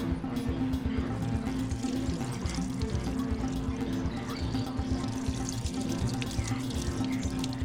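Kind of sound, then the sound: food or drink, water running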